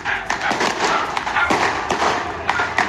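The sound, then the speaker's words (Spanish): Fireworks burst over houses in the commune of Pudahuel, some falling onto the houses, in a quick, irregular series of sharp bangs and crackles over a constant noisy rumble, with several louder explosions standing out. “Algunos fulminantes caen sobre las casas.”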